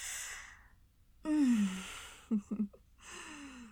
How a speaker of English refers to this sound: That little gasp. Fuck, I fucking missed that. Do it again.